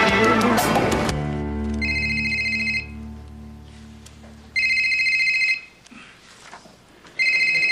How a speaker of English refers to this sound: Are you gonna get that? I can't. It could be Kevin. If I answer the phone